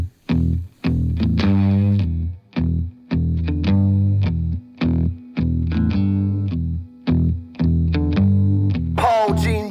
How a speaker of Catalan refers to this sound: s'hi troba una versió del … del …, tirant cap a blues en aquesta ocasió